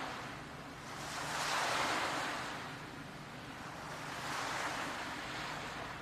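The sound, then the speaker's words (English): Gentle ocean waves lap the shore and wash onto the sand in slow, rhythmic swells, two broad surges rising and fading over a steady soft hiss of surf, with no voices. “These peaceful waves gently lapping the shore, washing gently into the sand. The waves calming, peaceful, rhythmic.”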